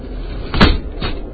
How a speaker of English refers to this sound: Let's hear the sound of our door closing, and the noise beginning again.